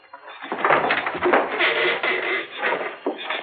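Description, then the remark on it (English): A door is opened by turning its doorknob and swings wide in one sustained, scraping motion lasting a few seconds, moderately loud, with no voices. “And then as I felt in touch the doorknob, I turned it and swung open the door.”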